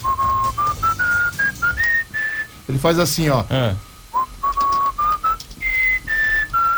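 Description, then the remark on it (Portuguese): A pet parrot whistles the Palmeiras football club anthem as a bright, clear melody of held notes stepping up and down, interrupted midway by a brief spoken phrase before the whistling resumes. “Você sabe que eu ensinei meu passarinho a cantar o hino do Palmeiras, né?”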